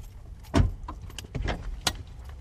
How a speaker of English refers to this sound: Two men in their mid-20s settle into the backseat of a car parked on a quiet street outside a large windowless warehouse. They're on a break from their jobs at one of the biggest warehousing firms in the Riverside area.